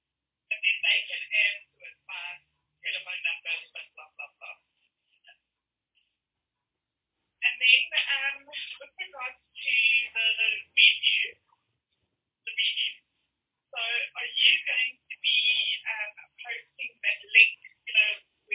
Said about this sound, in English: Okay, we need to start. Can that member who is having a chat on a phone mute her phone?